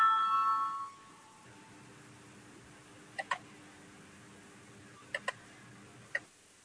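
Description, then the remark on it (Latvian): A brief electronic bell signal tone rings out in a parliament, calling a vote on the Cabinet of Ministers' proposal 115; it cuts off after about a second, followed by quiet broken by a few sharp, soft clicks, some in quick pairs. “Lūdzu, zvanu balsosim par 115. ministra kabineta priekšlikumu.”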